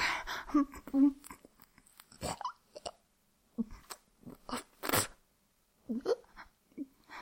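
Wet mouth noises of someone chewing food and swallowing, arriving in irregular bursts with brief pauses and a few short throaty sounds, fairly quiet overall.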